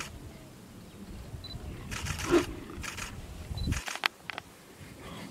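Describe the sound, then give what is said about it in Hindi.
A bear gives low, rumbling growls and a couple of short, harsh roars as it chases off two tigers, mixed with bursts of rapid camera shutter clicks, then falls quiet near the end. “भालू ने आवाज करके दोनों को डको भगा दिया, देखो खड़ा रह गया।”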